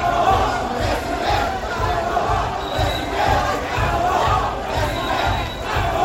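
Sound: crowd chanting political slogans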